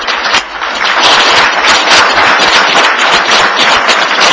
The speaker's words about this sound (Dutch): En voor u alle drie een heel hartelijk applaus van de zaal.